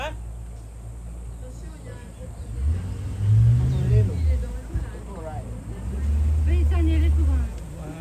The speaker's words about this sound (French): Bon, le trajet, il dure 3 heures en bateau. Et c'est vrai que c'est assez pénible parce que on peut faire rien d'autre que de regarder ce qui se passe dehors. Il y a le bruit du moteur qui fait un petit peu mal à la tête.